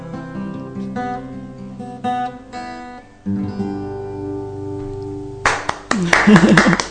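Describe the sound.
Sustained, tonal music plays, then ends and a short burst of light applause from a small audience breaks out for the final second or so, with a voice speaking over the clapping.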